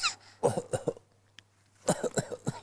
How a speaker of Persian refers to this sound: بچه ها سرفه میکنن چیکار باید بکنن؟